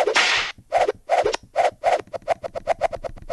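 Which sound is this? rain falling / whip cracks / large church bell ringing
whip cracks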